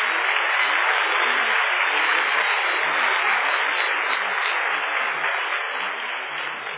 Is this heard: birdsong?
no